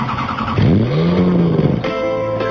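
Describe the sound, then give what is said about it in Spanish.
A car engine starts up and revs hard, its pitch sweeping up and then dropping back in one loud burst before settling to a steady idle. “En Autolíder arrancamos.”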